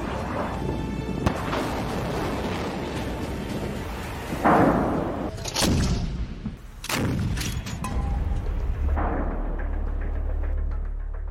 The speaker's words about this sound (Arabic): وفتحت النار.